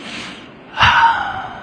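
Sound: heavy breathing into microphone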